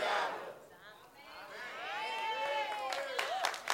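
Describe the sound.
An audience applauds, a dense patter of clapping blended with many raised voices calling and cheering, the sound swelling steadily and staying loud throughout.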